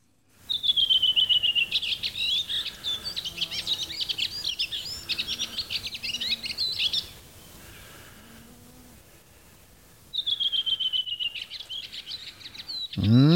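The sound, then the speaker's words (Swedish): A redwing sings two clear phrases, each opening with a descending whistled series and breaking into a rapid, twittering chatter, with a short pause between them; a faint low moo sounds in the background. “Rödvingetrasten, kanske inte lika känd sång som släktingen koltrast, men nog så vacker.”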